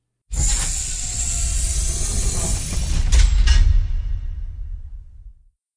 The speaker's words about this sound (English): Then suddenly there is a metallic noise. The whole vessel shakes. There is a clunk, a hissing sound, and a sigh when the door opens to the underwater base and the pressures equalize.